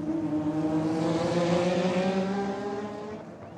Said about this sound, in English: Instead of musicians, now I was capturing the sound of car racing, tennis, baseball, football, whatever they sent my way.